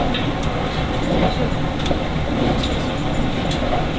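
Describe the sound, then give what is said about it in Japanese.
A steady rumble of a two-car train running on a line in Japan bound for Tokushima, heard from on board inside the carriage, with continuous rattling wheel and track noise and no one talking. “列車は2両で運転をいたしております。”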